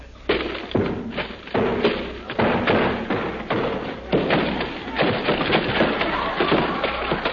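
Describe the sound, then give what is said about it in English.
An axe chops repeatedly at bamboo being cut to board up the windows, a quick, irregular series of hard, hollow thuds and cracks that keeps up steadily for several seconds. “We're cutting this bamboo to board up the windows”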